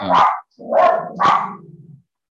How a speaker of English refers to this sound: Sorry, my dogs are going to bark.